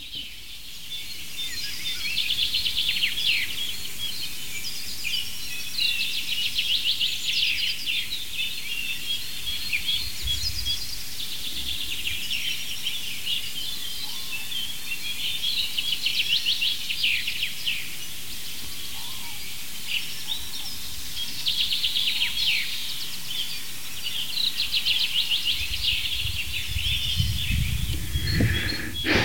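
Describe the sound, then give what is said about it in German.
A bright chaffinch song rings out again and again over a busy outdoor bird chorus in late May, its repeated phrases standing clearly above softer chirps and a low rumble of background noise. “Ich hoffe, dass die meisten von euch diesen einen, gerade das Klangbild dominierenden Vogel deutlich raushören konnten, also die eine Vogelart, unseren Buchfink, ein wiederholender Gesang, also immer dieses, also ein kräftiger, schmetternder”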